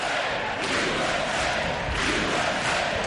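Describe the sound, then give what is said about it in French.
A large audience applauds and cheers loudly and steadily during a Donald Trump speech as he hails the election of many women to Congress in 2018, a dense wash of clapping mixed with shouts and whoops that holds at full strength throughout, with no clear speech on top. “C'était un des moments les plus applaudis de son discours.”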